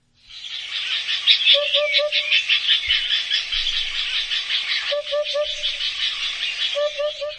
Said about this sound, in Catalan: el puput, és aquest que té que té una cresta, que és blanc i negre. Sí. Que es distingeix del cucut perquè fa tres vegades put en comptes de dues